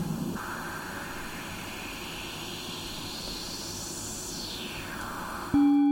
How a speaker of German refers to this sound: haben wir ein Filter mit einer Resonanz, die einen bestimmten Teilbereich des Spektrums jetzt überbetont. Das heißt, wir hören immer noch das ganze Rauschen